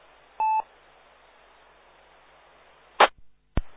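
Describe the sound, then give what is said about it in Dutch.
A single short electronic beep of two steady tones, sounding when the button is released, rises out of a faint static hiss, followed a few seconds later by two sharp clicks. “Als je hem loslaat, hoor je piep.”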